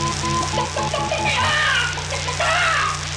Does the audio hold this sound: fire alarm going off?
no